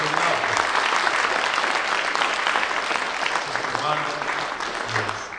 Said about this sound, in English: Can we give them a big round of applause and show appreciation?